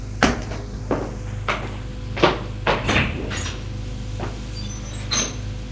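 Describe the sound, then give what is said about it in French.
A door being opened after someone rang the doorbell, heard as a series of sharp clicks and knocks from the latch and handle over a low steady hum, with no voices. “Un jour, on a sonné à la porte. Benoît va ouvrir.”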